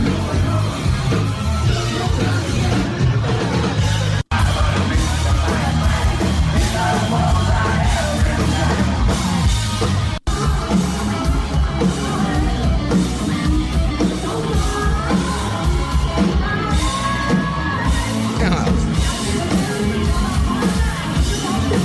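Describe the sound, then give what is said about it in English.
A loud live rock concert recorded on a cell phone, with a yelling, cheering crowd over dense, driving band sound, full-range and continuous, with two abrupt momentary cuts like edits in a montage of the set. “There's a montage of, somebody put a montage of the set together. Let's listen to a little bit of that.”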